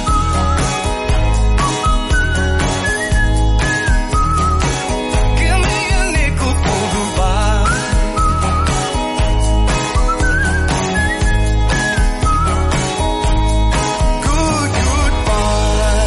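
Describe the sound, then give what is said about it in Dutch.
A whistled melody at the end of a song rides on top of a full band with a steady drum beat, loud and continuous throughout, the tune gliding up and down with no talking. “Zelfs als ze gewoon een beetje staan te fluiten, is het goed.”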